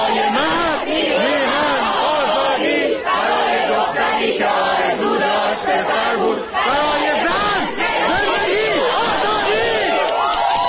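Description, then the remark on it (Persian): A large protest crowd shouts and chants a protest song together, a dense, loud wall of many overlapping voices with rising and falling tones that carries on without a break for about ten seconds. “اما این فریادها و همخوانی ها محصول چیست؟”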